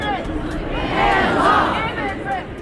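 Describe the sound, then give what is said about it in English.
A large crowd of several thousand at the Hands Off protest on the steps of the Capitol in Madison, aimed at Donald Trump and Elon Musk, chants and shouts together, many voices blending into a loud, swelling roar that rises in the middle and stays dense throughout, with no single voice standing out. “They made their causes known through chants, costumes, and homemade signs.”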